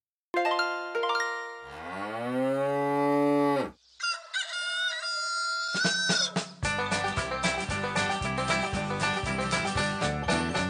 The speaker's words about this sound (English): Cows live on farms. And what do cows say? Right, moo.